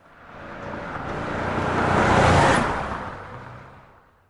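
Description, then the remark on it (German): A car drives past, its engine and tire noise swelling gradually to a peak midway through, then fading away again. No voices. “Klar, das erkennst du sofort. So klingt ein Auto.”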